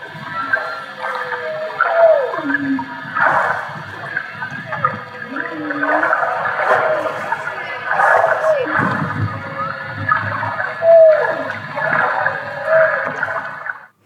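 Humpback-style whale song recorded with an underwater microphone: a continuous sequence of rising and falling moans, whoops and groans over a steady watery hiss, fairly loud and unbroken for the whole stretch, with no talking.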